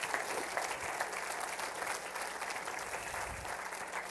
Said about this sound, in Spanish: Denle un grande aplauso a Cristo, hermano.